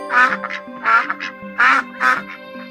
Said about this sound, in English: Or is it a baby duck?